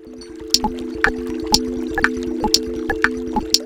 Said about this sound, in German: Schau dir das alte Haus an. Das ist eine Wassermühle.